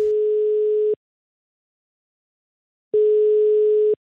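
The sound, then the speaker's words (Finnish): A telephone ringback tone sounds twice as a phone call to a pizza maker connects: two steady, evenly pitched one-second beeps separated by a two-second silence, heard clearly with no voices. “Tähän väliin vielä toinen pizzapuhelu.”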